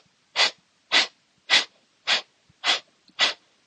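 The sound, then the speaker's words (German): Six quick, forceful breaths at a steady rhythm during a guided breathing exercise, each a sharp airy rush in and out, fairly loud, with brief silences between and no talking. “Dann atme einmal tief ein und wieder aus. Wir atmen gemeinsam ein und dann atme einmal aus.”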